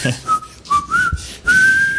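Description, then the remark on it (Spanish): A clear, melodic whistle carries a bluesy tune with sliding pitch, set over a soft, plucked acoustic guitar accompaniment, fairly loud. “Con la acústica y silbando, ¿no?”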